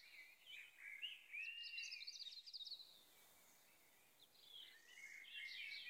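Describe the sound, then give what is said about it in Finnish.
A blackbird sings fluting, warbling phrases by a roadside just after rain has stopped, fairly soft, with a brief lull midway before the song resumes. No voices, just the bird against a quiet outdoor background. “kuin ne olisi malttamattomina odottanut sateen lakkaavan. Ihminen on pysähtynyt tien varteen niitä kuunnellakseen”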